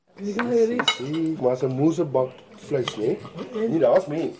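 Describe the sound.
Forks and knives clink against plates in scattered bright taps while a woman, her father and her husband talk over a family lunch in Cape Town, the clatter of dishes rising in short bursts between their voices.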